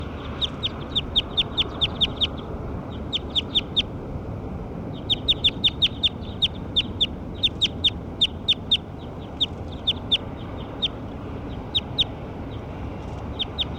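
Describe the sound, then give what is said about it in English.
The call of bird number 6: a bird calls in rapid bursts of sharp, high clicking chirps, repeated in clusters with short pauses between, over a steady low rumble of background noise; the rhythmic pecking calls resemble clucking. “This is the call for bird 6.”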